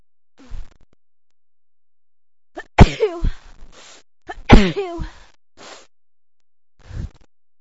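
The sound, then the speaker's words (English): Two loud sneezes burst out a couple of seconds apart, with sharp breathy onsets. Softer sniffs and breaths come before and after, and there is no talking. “I feel like I'm gonna sneeze.”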